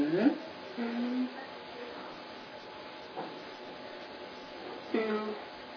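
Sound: bus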